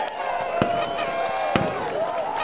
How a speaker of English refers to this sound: Can we get some sort of a celebration sound effect?